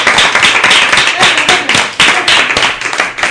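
Loud, sustained applause from an audience for a music group's performance at the end of a program, a dense wash of many hands clapping with scattered sharper claps standing out, steady throughout without any talking.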